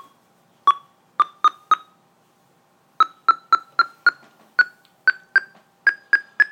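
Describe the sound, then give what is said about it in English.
A series of short electronic beeps from the NVDA screen reader's progress bar updates, set to beep for progress bar updates: four quick beeps, a pause, then a steady run of about a dozen more, their pitch creeping slightly higher. “Beep for progress bar updates.”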